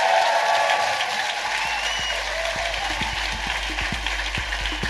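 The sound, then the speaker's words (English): A crowd applauds steadily with dense, sustained clapping that stays loud throughout, with a few sharper individual claps standing out in the wash, as Stephen Merchant is introduced. “Ladies and gentlemen, please give a massive round of applause for the...”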